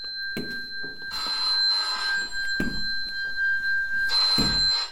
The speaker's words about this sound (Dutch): Oh, de telefoon gaat. Soldaat Jones, zou u even de telefoon willen opnemen?